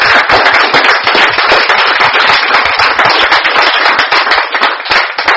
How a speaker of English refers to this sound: And looking all around, I didn't realize how hard our sisters, if we can give a round of applause to our sisters.